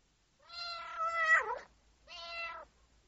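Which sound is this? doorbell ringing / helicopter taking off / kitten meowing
kitten meowing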